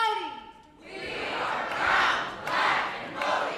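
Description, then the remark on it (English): A crowd chants in rhythmic swells, loud voices rising and falling in roughly three surges, following a brief tonal whistle-like sound at the very start. “The crowd chants.”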